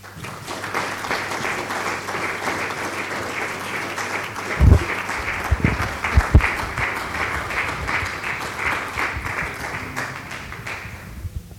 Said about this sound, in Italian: L'applauso è anche un segno del nostro apprezzamento di quello che stai facendo